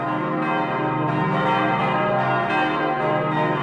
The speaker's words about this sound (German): Und dann haben wir noch eine historische Glocke aus dem 15. Jahrhundert. Und unser Geläut eben zeichnet sich daraus aus, eben weil es einfach auch sehr singfreudig auch ist.